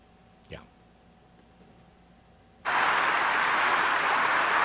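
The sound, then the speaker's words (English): A near-silent stretch with one brief rising whoosh, then a crowd suddenly bursts into loud, sustained cheering and applause that holds steady, a dense roar, until the end. “Oh, listen to him cheer.”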